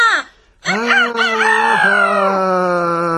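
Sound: rooster crowing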